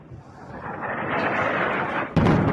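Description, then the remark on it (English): A deep, sustained rumble builds steadily, then a sudden loud blast erupts near the end, like a heavy explosion booming out over the continuing roar: explosions in Tehran, Iran, during a war, with massive plumes of smoke. No voices are heard. “Today in Tehran, the epicenter of this widening war, the plumes of smoke were massive and the explosions thunderous.”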